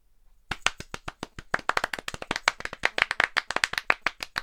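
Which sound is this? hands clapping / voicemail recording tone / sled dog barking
hands clapping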